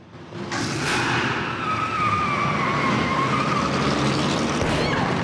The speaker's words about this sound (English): As Isabella makes to cross the road, a car comes careering towards her, knocking her backwards.